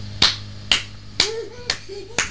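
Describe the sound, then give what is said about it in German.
Five sharp hand claps in a steady rhythm, about two per second, crisp, clapped for someone to hop to, with a faint voice briefly sounding between the later claps. “Hüpf du mal, ich klatsche.”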